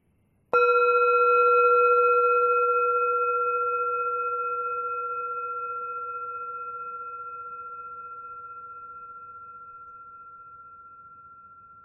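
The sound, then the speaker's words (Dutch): A single meditation bell is struck once to begin a body meditation, giving a clear, sustained mid-pitched tone with shimmering overtones that rings on and fades very slowly over about eleven seconds, with no talking. “Als je de bel hoort, begint de lichaamsmeditatie.”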